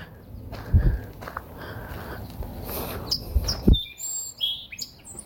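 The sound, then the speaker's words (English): A song sparrow sings a quick run of bright, high chirps and short trills near the end, following a stretch of soft rustling and a couple of dull low thumps. “Oh, Song Sparrow.”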